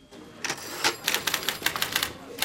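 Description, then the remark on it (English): Rapid typewriter keystrokes clatter in an uneven rhythm as Shaz types away at her desk, a dozen or so sharp clicks over a quiet background. “Shaz is typing away when Chris walks over to her desk.”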